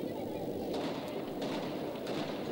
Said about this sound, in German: صدای ترقه و بمب میاد چون جشنه. So, ihr hört das Feuerwerk, weil es halt hier gefeiert wird.